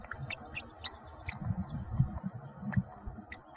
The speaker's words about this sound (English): He says parrot babble is really very similar. Gibberish is a good descriptor.